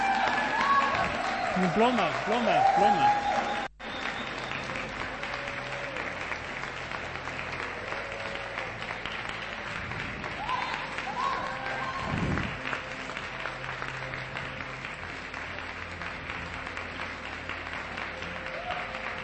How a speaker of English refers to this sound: But I think we need to really, and I'd like you guys all to stand as she comes up this morning, but let's give her a huge round of applause to my PA